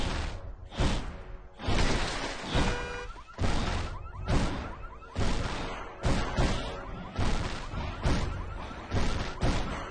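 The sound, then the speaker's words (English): Heavy, booming stomps of the giant Pineapple Head land about once a second as he stomps out of the jungle onto the street, loud, each impact followed by clattering metallic rattles of parked cars and crashing debris, with no voices. “He stomps out of the jungle and onto the street. Parked cars rattle as he passes.”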